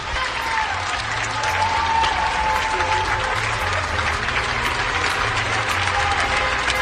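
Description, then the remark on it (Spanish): Sustained applause from many people in Spain clapping for health workers, a dense, steady wash of clapping that stays loud and even for the whole stretch, with faint cheering mixed into the crowd noise. “Es decir, que España entera está aplaudiendo a nuestro personal sanitario.”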